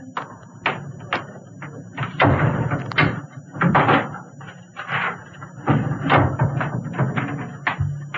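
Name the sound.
desk drawer being opened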